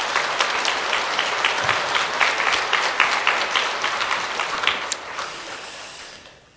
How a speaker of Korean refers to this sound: 우리 새롭게 탄생한 가정 보니까 좋은데 한번 박수 한번 하겠습니다.